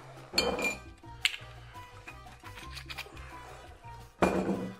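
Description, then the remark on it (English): Sharp clinks of glass and metal ring out three times, with quieter handling and a soft pour of a double 2-ounce shot of golden spiced rum in between, while a rum and raisin espresso cocktail is being made. No one speaks. “And then a double 2 ounce shot of the golden spiced rum.”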